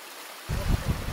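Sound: river stream flowing water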